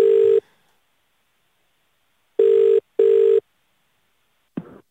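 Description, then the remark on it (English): Telephone ringback tone heard from the caller's end as a caller phones to check a job candidate's references: a short final ring, a pause, then one loud double ring, followed by a brief click as the line is picked up. No one speaks. “That's why I would like to get straight on the phone and just check his references.”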